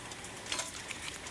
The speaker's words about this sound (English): It's hot water, it's boiling, and it's ready for this piece. You dip it in...